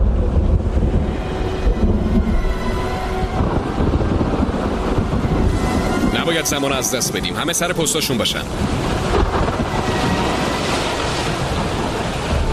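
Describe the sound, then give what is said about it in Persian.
A loud, constant storm roar of howling wind and crashing surf around a ship at sea fills the whole scene, with a man's voice shouting urgently over the din partway through. “کاپیتان، طوفان کیپ.”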